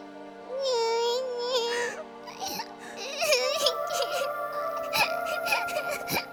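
A girl cries nearby in wavering, breathy sobs and whimpers that rise and fall in pitch, with steady soft music sustained underneath.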